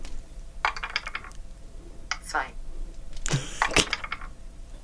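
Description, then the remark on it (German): A 3D dice app on a phone being shaken makes dice rattle and clatter in several quick bursts, a couple of short rolling runs and then a louder tumble of clicks near the end, with no talking. “Würfel in 3D. 6. Cool. So, jetzt muss ich bloß schütteln.”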